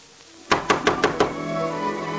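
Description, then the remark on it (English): Five loud, evenly spaced knocks on a woman's door in quick succession, with a ringing resonance lingering afterward and no voices. “Why, Press, banging on a lady's door.”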